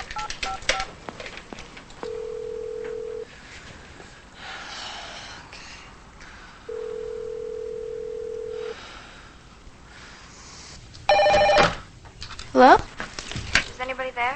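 telephone being dialed

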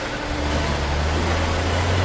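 truck backing up

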